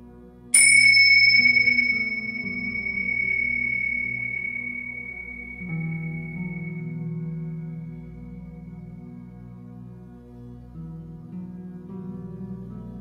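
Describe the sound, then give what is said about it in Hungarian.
A meditation bell is struck once, a bright clear ring that slowly decays over several seconds, lingering above a soft, steady low drone that continues underneath. “A csengő hangjára elkezdesz befelé figyelni, és a csengő hangjával, ahogy egyé válsz, gondolatmentessé is válsz.”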